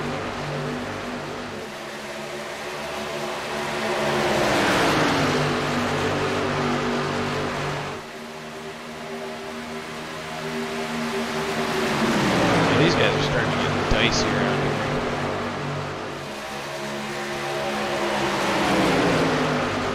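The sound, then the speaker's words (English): Race car engines roar past repeatedly around a track, including the number 24 car, each pass rising to a loud, high whine and then dropping in pitch as the cars sweep by and fade, with brief quieter gaps between passes. “And there goes the 24 the car on around.”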